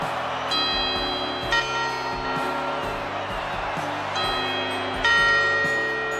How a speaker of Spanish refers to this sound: Poco antes de las 12 de la noche, las familias encienden la televisión para asistir a las campanadas.